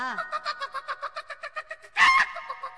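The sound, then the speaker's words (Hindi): A rapid series of short clucks repeats steadily, like several hens and roosters chattering in a coop, followed by a louder burst of squawking near the end. “आ देखी कितना जो जोटार बोले ले पोसुआ ही हो। हां हां बहुत मुर्गी बिया हो।”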